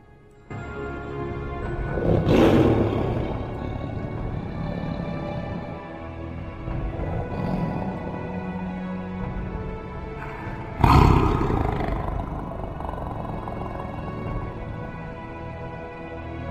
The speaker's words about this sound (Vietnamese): Tiếng phẫn nộ của nó gầm lên, vang vọng cả trời đất, chấn động cả thiên địa.